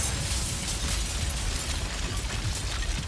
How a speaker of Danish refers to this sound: Jeg står herude på Islands Brygge i København, lige der, hvor asfaltvejen bliver til brosten. Og lige foran en enorm betonbygning, som hedder Silo 52, og som man lige er gået i gang med at rive ned med sådan en meget stor jernkugle.